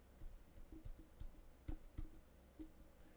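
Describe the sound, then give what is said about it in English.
A handful of sharp, irregular keyboard clicks tapped out over about three seconds, fairly quiet, with no voices. “Keyboard click.”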